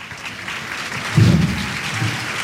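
A crowd applauds, a dense wash of clapping from many hands that swells noticeably partway through and continues steadily, with no voices standing out.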